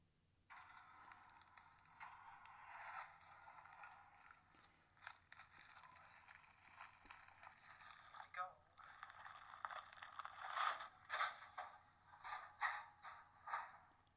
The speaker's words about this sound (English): Let's go take out the trash.